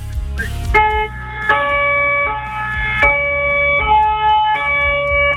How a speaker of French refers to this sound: Où les pompiers sont très actifs, déjà, vous l'aurez entendu comme moi, avec la sirène du camion Échelle qui se trouve notamment sur place.